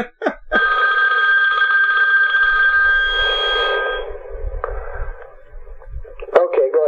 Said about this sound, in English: Yeah, just a second. My other phone is ringing. Let me just turn it off.